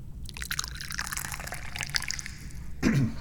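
Hot, freshly brewed golden Jiguan Yin tea being poured steadily into a cup, a continuous trickling splash with bright, ringing liquid tones, followed by a brief low vocal sound at the very end.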